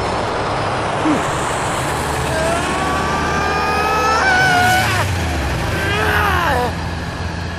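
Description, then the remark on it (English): A modified car engine roars at full throttle, its pitch climbing steadily in a loud, rising whine, briefly dropping, then surging upward again in a second burst of acceleration. “I knew this would happen, so I modified my engine. Full throttle!”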